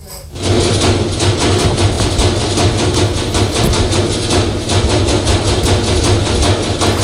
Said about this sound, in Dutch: Vorige week liet ik een drummende wasmachine horen. Luister maar even.